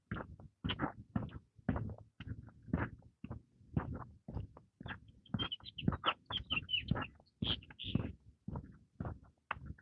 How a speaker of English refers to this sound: A lot of grackles.